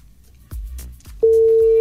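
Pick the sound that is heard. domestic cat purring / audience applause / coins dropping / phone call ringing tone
phone call ringing tone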